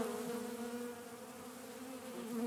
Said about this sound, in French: Je suis sous un noyer et autour de moi, il y a des quantités d'abeilles qui volent, qui viennent chercher le miel.